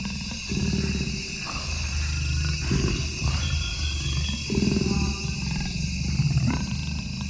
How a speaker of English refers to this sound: And I turned on my recorder, and all of a sudden, the sound of this jaguar breathing right into the mic. It stepped right up to the microphone.